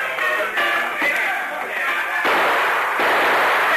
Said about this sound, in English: As we go through the door, fire a couple of shots into the ceiling just as a warning.